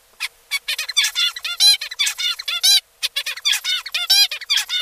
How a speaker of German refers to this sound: So zwitschert ein Zebrafink. Wie er als Jungvogel seinen Gesang lernt, das haben Zürcher Forscher nun herausgefunden.